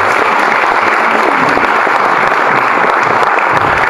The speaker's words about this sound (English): And one more round of applause for the wonderful work.